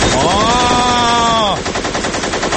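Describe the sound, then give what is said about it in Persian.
Loud, dense bursts of rapid automatic gunfire rattle without pause, a war sound effect with a high whining tone over the first half before the firing continues alone. “حالا برای توضیح بیشتر من از همکار جنگجوی خودم مرداد میخوام یکم صدای جنگ پخش کنه، شما بیشتر در جریان ریز امور قرار بگیر.”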